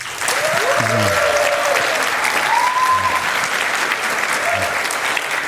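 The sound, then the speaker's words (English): Steady, dense applause from an audience welcoming two speakers fills the whole stretch, a broad continuous clatter of many hands clapping at a fairly loud, even level, with brief faint tonal sounds under it. “Please welcome them both with a huge round of applause.”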